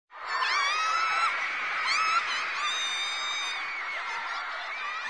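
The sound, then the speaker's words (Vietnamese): A crowd of girls shriek excitedly on seeing their idol, in sustained, high-pitched squeals, many voices overlapping loudly for several seconds without a break. “Hình như là các cô gái đang hét lên khi mà thấy thần tượng của mình.”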